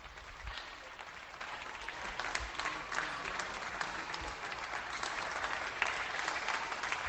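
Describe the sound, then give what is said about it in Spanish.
Sustained applause for health workers from many people in Santiago de Compostela, Galicia, a dense, steady clatter of clapping hands that keeps going for the whole stretch without any talking over it. “En Galicia, contra el desánimo general, aplausos para nuestros héroes.”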